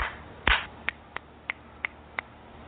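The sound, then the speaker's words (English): A loud opening clap followed by five sharper, lighter hand claps in a steady, evenly spaced rhythm, with no talking, done as a clearing exercise. “We're going to do a little clapping, clearing on that one.”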